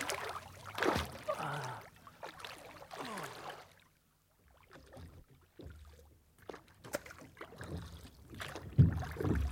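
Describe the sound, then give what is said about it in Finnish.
Oars rowing a boat through water, with splashy strokes at an uneven rhythm and soft dripping between them, fairly quiet, with a brief lull midway. “Lyödäänkö vetoa, että tämä moottori toimii ennen kuin sinä olet soutanut veneen rantaan?”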